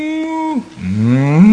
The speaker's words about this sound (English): And some people, they like cows. Некоторым нравятся коровы. They love cows. Некоторые очень любят коров. They love to be around cows, and they love to hear cows when they speak.